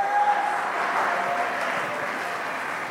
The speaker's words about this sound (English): Somebody clap your hands to God right now.